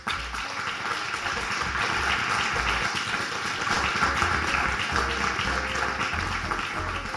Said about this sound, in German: Vielen Dank, danke für Ihre Zeit. Ein großer Applaus für Sie.